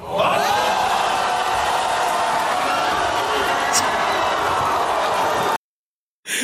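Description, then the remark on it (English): An excited crowd on a national TV show cheers in a loud, steady roar of many voices for about five seconds, then it cuts off abruptly; after a brief silence, the noise returns for a moment. “But see the crowd feeling there?”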